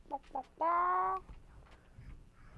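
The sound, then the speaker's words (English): A chicken clucks twice in quick short bursts, then lets out a longer, drawn-out squawking cluck, fairly loud, followed by quiet background. “What does the chicken say? Cluck, cluck, cluck, cluck”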